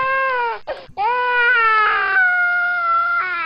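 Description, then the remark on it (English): A baby who has just soiled its diaper cries loudly: a brief wail, a sharp catch of breath, then a long, sustained, strained howl that wavers slightly in pitch. No one talks over it. “So you should see, that's a baby who just took a shit and needs its diaper changed.”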